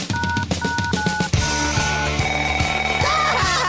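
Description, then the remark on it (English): A loud electronic telephone ring repeats in quick bursts, then gives way to a dense, thumping musical bed with steady tones and heavy bass hits. No one speaks. “That bot sounded like a ringing phone dance.”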